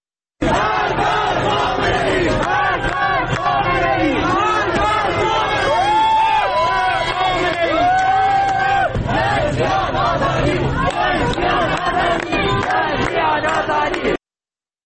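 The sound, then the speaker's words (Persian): A street protest crowd in Ilam, Iran, which has blocked the street by lighting fires, chants slogans such as "Death to Khamenei" in loud unison. Voices rise and fall in rhythmic waves with shouted peaks over a dense, continuous roar of many people. “در ایلام با شعارهای مرگ بر خامنه‌ای خیابون رو با افروختن آتش بستن و شعار میدن.”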